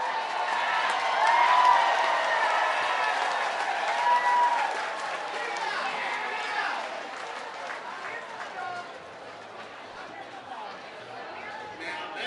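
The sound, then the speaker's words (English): A baseball crowd in Johnson City cheers and applauds after a flyout catch, cheering the team's bat boy, which is a dog; a broad swell of voices and clapping that peaks early, then gradually settles into a softer, steady murmur of the crowd. “If you're wondering why the cheer after a flyout, the Johnson City bat boy is a dog.”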